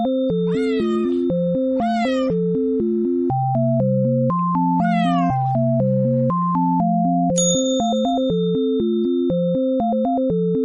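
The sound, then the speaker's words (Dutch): A cat meows three times, drawn-out rising and falling cries, over a bouncy electronic melody with a low droning bass; a bright chime rings near the end. “Een kat viel de muizen voortdurend lastig en had al vele van hen opgegeten.”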